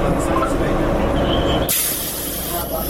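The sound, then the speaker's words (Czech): A steady low engine rumble fills the inside of a moving, uncrowded city bus, then cuts to a sharp, sustained pneumatic hiss, like air brakes or doors releasing, fairly loud. “Stižem gradskim prijevozom”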